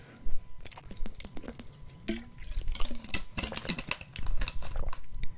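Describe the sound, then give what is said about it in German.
Someone drinks a sip of water: small wet mouth sounds and soft liquid clicks, a few gulps and swallows scattered irregularly over several seconds, with faint sloshing and no talking. “Oh, ich trinke noch einen Schluck Wasser mit euch zusammen.”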